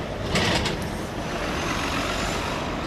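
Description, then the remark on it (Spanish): Busy Paris city street traffic on an ordinary weekday, with a steady low rumble of engines, a heavy truck and a brief hiss like an air brake near the start; no voices. “Esto es París un día de la semana cualquiera.”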